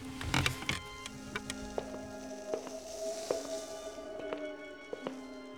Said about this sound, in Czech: Asi po hodině ho vyrušil zvuk vrzajících dveří a následný průvan větru.